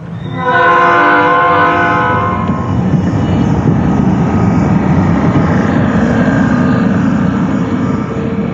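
A train horn blares for a couple of seconds, then gives way to a steady, loud rumble of railcars rolling past, with no voices.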